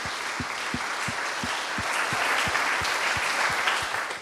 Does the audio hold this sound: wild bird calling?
no